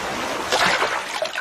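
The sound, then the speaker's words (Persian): A splash as Arlong, a fish-man in One Piece, dives down into the water, a brief surge of rushing, frothy noise followed by churning and bubbling as the water settles, with no voices. “چی شد؟ شیرجه زد پایین؟”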